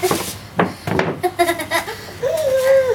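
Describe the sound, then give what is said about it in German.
Children squeal and giggle in high, wavering voices, ending in a long drawn-out squeal, with a few sharp knocks and clatter near the start. “Naja, so, die Kinder quietschen.”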